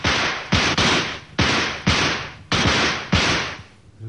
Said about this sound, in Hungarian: Duella, kezdjük. 10 lövés.